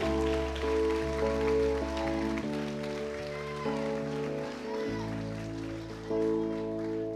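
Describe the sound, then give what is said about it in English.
An audience of campers and guests claps steadily in appreciation of their leaders, counselors, youth pastors and children's pastors, a dense, continuous patter of applause, mixed with sustained keyboard or organ chords that shift every couple of seconds underneath. “So every camper, every guest in the room, will you give your leaders and your counselors and your youth pastors and your children's pastors a huge hand clap of appreciation?”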